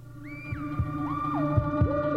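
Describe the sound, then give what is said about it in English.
Saucepans scraped together as a Martian cylinder unscrewing: grinding metallic squeals that slide up and down in pitch, over a steady low hum and a rhythm of heavy thuds, with no voices. “Listen for that, the scraping of saucepans, believe it or not, as the unscrewing sound of the Martian cylinder.”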